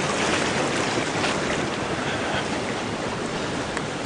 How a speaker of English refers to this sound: The creek is running very strong.